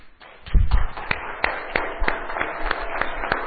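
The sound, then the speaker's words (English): Hands clap for Jesus in a steady, even rhythm, about three claps per second, sharp and moderately loud over a low murmur, after a brief thumping rumble at the start. “And if you have strength, you can stand where you are and to clap hand for Jesus.”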